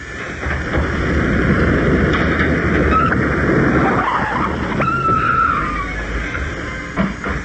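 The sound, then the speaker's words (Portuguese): A car roars up and skids to a stop, tires screeching in a loud, sustained squeal before the noise settles. No voices are heard. “Vamos no seu carro mesmo, doutor Djalma.”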